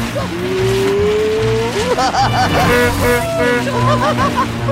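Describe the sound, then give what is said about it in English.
A car engine roars loudly while tires squeal and skid in long, wavering screeches as the car speeds round in a circle across grass and the driver tries to brake but it does not slow. “He tries to brake, but the car doesn't slow.”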